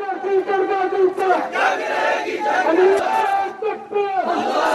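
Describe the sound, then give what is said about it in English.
A large crowd of Pakistanis shouts and chants in unison near the prison in Lahore, Pakistan, where Ray Davis is held, calling for him to be hanged; many raised voices overlap into a loud, continuous roar of protest that swells and dips without pause for several seconds. “Here's sound earlier this week near the prison in Lahore where Ray Davis is being held as a large crowd of Pakistanis protested and called for Davis to be hanged.”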